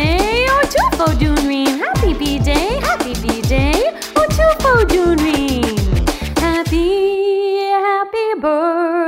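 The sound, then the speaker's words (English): A dog barks in quick, loud bursts of yipping woofs, one after another, before the sound stretches into a long, drawn-out whine at the end. “My dog says, woof, woof to you.”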